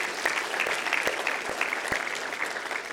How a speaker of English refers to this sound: So can you just applaud with me, be excited with me, and celebrate?